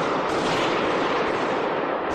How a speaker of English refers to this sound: Heavy gunfire can be heard ringing through the venue in this video recorded by a witness taking cover.